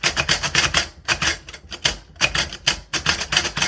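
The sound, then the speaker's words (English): Loud mechanical clacking from a Perkins Brailler creating Braille, with quick clusters of sharp key strikes separated by brief pauses, in an irregular typing rhythm. No voices are heard. “One sound I wanted to add in, though this device is an efficient means of creating Braille, the Perkins Brailler is very loud.”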